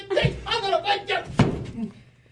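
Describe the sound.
A door slams shut once with a sharp, heavy thud partway through, while people talk over it at a moderate level.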